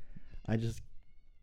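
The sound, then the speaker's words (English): A single short meow voiced by a person imitating a cat, rising and falling in pitch over about a third of a second, with quiet room tone before and after. “Was that was someone walking their cat? It's a cat girl.”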